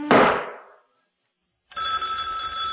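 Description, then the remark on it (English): A telephone bell rings loudly, one burst fading out, then a short silence before a second steady, buzzing ring begins and continues. No one speaks. “I always let the phone ring more than once.”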